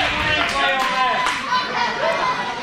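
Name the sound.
crowd cheering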